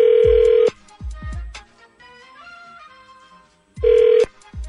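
An outgoing phone call rings: two loud, steady ringback tones separated by a few seconds of pause, with faint music and a few low thumps in between.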